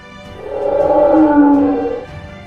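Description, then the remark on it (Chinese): A single deep, drawn-out angry roar from a lion, swelling loud and rough for about a second and a half before fading, with no talking. The lion roars to drive off crows gnawing on a zebra skeleton. “哈利克忽然一声怒吼，轰走了正在啃着斑马骨架的乌鸦。”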